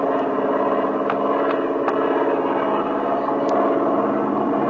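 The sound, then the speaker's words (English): A steady, dense airplane engine drone fills the whole stretch, loud and continuous, the engine overheating at 220 degrees and burning the paint off its cylinders, with a few faint clicks and higher tones flickering over it. “You can't run the engine this way. It'll ruin it.”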